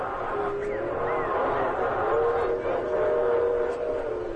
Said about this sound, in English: There's a train.